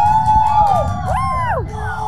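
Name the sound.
audience clapping and cheering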